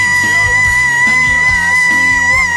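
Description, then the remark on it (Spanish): A voice imitates an operatic scream given on finding a wasps' nest, a loud, sustained high-pitched wail lasting a couple of seconds with a steady tone, continuous with no other talking. “Di un grito a lo cantante de ópera.”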